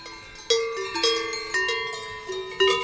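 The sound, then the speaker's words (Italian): A cowbell shaken in uneven strokes, about five bright metallic clanks whose rich, ringing tone hangs and overlaps between hits. No one speaks. “Invece questa ton come le campane della chiesa. Quella nuova fa tec tec.”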